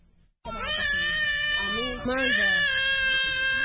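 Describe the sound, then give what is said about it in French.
A hungry baby in its mother's arms, just arrived by pirogue from the neighbouring Democratic Republic of Congo on the beach of Rumonge, Burundi, about 100 km south of Bujumbura, cries loudly in one continuous, strained wail that starts abruptly after a brief quiet moment and keeps going with only a tiny catch for breath. “Sur la plage de Rumonge, à une centaine de kilomètres au sud de Bujumbura, ce bébé dans les bras de sa maman vient d'accoster d'une pirogue qui vient de la République démocratique voisine.”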